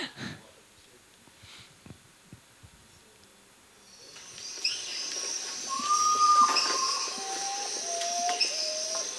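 A common potoo sings a slow series of mournful whistled notes, each lower than the last, falling in a descending minor third pattern over a steady high insect drone in the background.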